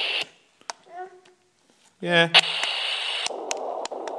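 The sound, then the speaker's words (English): A short burst of hiss, a brief spoken word, then steady radio-interference static from a sound machine switches on, loud, crackling and hissing without a break to the end. “Okay, three of them are radio interference and two of them are seashells.”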